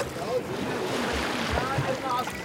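Water sloshes steadily against the hull of a boat rocking side to side on ocean waves near an island of an archipelago, with a broad wash of ocean noise and low wind rumble filling the background.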